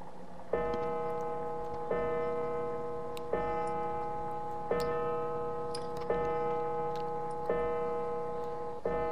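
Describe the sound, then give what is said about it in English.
A clock bell strikes the hour, ringing about six loud, evenly spaced chimes roughly a second and a half apart, each a rich metallic tone that rings on until the next strike. No one speaks. “Did you just have one bell?”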